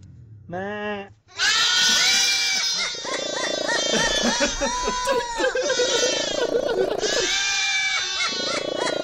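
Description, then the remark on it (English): Several goats bleat loudly and almost continuously, overlapping cries with wavering pitch, joined by higher squawking calls from a parrot and a cat purring; a low rumble runs faintly underneath. “That's how the cat purring, the goats, and the parrot at the same parrot. Time.”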